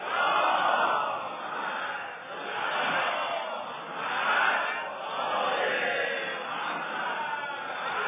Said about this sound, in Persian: صلوات بر محمد و آل محمد زیاد و بلند.